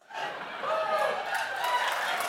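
A small group of scientists in a museum breaks into applause, steady clapping mixed with cheering voices, rising quickly and holding for a couple of seconds at moderate loudness.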